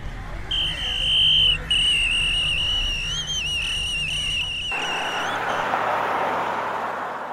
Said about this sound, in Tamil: அப்போ தினமும் நீங்கள் ரோடை கிராஸ் பண்ணுறதுக்கு இந்த போலீஸ்காரங்க தான் விசில் அடித்து ஹெல்ப் பண்ணுறாங்களா?